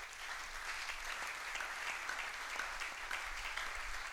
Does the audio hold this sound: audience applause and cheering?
yes